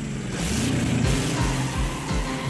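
A loud car engine roars as it accelerates hard, its pitch climbing and dropping several times in quick succession as it shifts up through the gears: the hot rod Grease Lightning, driven by Danny Zuko (John Travolta) in the drag race from the movie Grease, along the concrete bed of the Los Angeles River.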